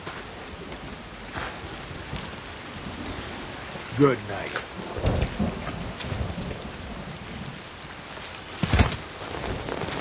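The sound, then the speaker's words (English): Heavy rain pours down at night in a steady, dense hiss, with a few louder rumbling bursts rising above it. A voice speaks briefly beneath the downpour. “What can you geniuses be called an emergency at night in the rain?”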